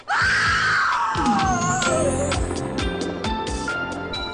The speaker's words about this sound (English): Alright, sorry for that scream to anyone that listens to Dune Reads Goosebumps while sleeping like I do.